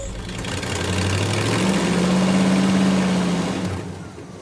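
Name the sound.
truck engine idling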